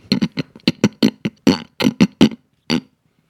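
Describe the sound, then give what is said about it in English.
A person imitates a pig, letting out a quick run of about a dozen short, throaty grunts and snorts in an uneven rhythm, fairly loud, ending with one last grunt. “Oh, a plague of pigs would have been good.”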